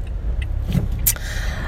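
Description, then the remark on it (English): Low, steady road rumble with a car swishing past, its noise swelling briefly and fading again, with no one talking; heavy morning traffic on the road, recorded on the way back from swimming. “It's just an interesting traffic day this morning.”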